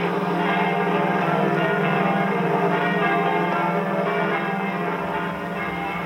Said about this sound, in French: messieurs les curés sont requis de faire sonner les cloches de leurs églises